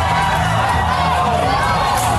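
A large rodeo crowd in Florida shouts and screams in alarm as a cow jumps over the pen into the crowd and people run up the bleachers, a dense, continuous roar of many voices with excited whoops rising above it, loud throughout.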